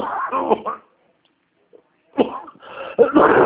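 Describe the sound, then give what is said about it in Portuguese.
A few harsh coughs burst out in two clusters separated by a short silence, loud and raspy, with no talking around them. “Deu uma tosse aqui, mas não estou com coronavírus, não.”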